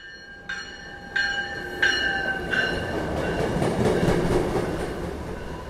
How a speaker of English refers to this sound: She rides the smooth train from Dorchester reading a book, or closes her eyes until South Station.